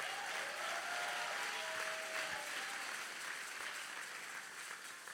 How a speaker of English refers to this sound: If you're clapping, don't pretend.